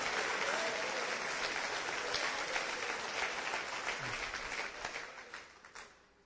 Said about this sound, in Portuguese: Não me aplaudam, aplaudam ao Senhor, porque é Ele que sustenta a sua vida e a minha vida.